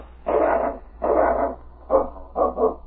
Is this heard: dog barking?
yes